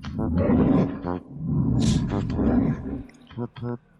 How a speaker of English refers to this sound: So now you hear bear growling and the music, which is twice as disturbing as far as I'm concerned.